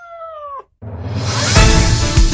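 A single short, clear cat meow at Cat Café Bilbao, with a slight downward bend at the end. After a brief silence, a dense, louder wash of noise takes over.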